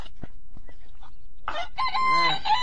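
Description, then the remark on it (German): A rooster crows once, loud, a strained, harmonic cock-a-doodle-doo rising and holding near the end, preceded by a few faint clucks and soft knocks. “Kaum, dass der erste Hahn schrie, hörte er auch schon seine Großmutter.”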